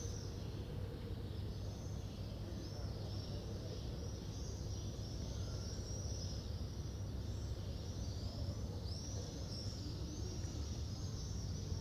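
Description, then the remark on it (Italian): Many birds chirp and twitter continuously in an empty city square in front of the cathedral (Duomo) in Florence, Italy, filling the quiet outdoor space over a steady low background hum, with no voices or traffic noise. “Arrivo davanti al Duomo e tutto quello che si può sentire, ancora, sono uccelli.”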